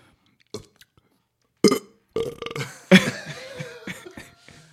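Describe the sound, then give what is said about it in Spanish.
A couple of soft clicks, then a series of loud, throaty burps, the last one long, croaking and drawn out before trailing off into quiet gulping sounds. “A ber, asmatu zein den egitazko eruptoa, joku bat.”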